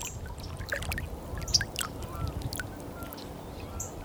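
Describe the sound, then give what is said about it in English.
Gentle lake water laps and trickles steadily against the shoreline, a soft continuous wash with small splashes, while faint bird calls chirp in the background. “See if we can hear the water.”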